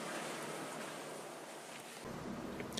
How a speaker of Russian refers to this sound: И что-то шумит. Я не знаю, где шумит, но... А, я знаю, где шумит. Шумит вот тут. Вот тут. Это кондиционер, вентиляция. Оттуда идет звук.